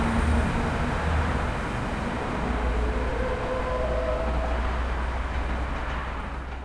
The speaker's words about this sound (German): Ich glaube, da hat ein LKW gebremst.